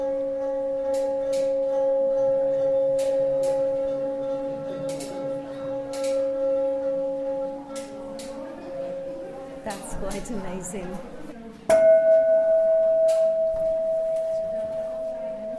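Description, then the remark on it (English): A resonating metal water bell, of a kind from Tibet and Buddhist temples, hums with steady, layered ringing tones while its resonance makes the water inside vibrate with little bubbles and small clicking splashes; then a second, brighter tone takes over, and faint voices murmur briefly midway. “Some resonation, and the resonation makes the water play. You can see little bubbles on the water, and keep.”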